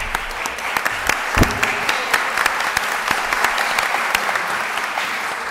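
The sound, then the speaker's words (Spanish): An audience at a poetry event claps steadily for several seconds for the director of the Fundación Artes Colombia, a dense crackle of many hands at an even, fairly loud level with a few sharper individual claps popping out. “la directora de la Fundación Artes Colombia, un aplauso para ella.”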